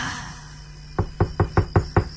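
Six quick, evenly spaced knocks on a bedroom door at night, sharp, starting about a second in after a quiet, slightly hissing background.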